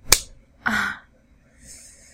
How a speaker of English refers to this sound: I think you deserve another slap for it.